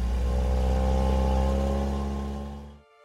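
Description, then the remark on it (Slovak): Gemma starts a car engine, which settles into a steady, loud rumble with a deep droning hum, then cuts off abruptly after about three seconds. No voices. “Gemma naštartuje motor.”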